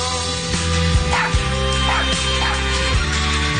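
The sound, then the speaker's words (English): A dog barks and whimpers in short yelps over a steady musical backdrop in an Anheuser-Busch Super Bowl television commercial, the sounds spaced irregularly across a few seconds. “this company spends more money than any other each year on television commercials that run during the big game, including this one from last February about a dog becoming best friends with a horse.”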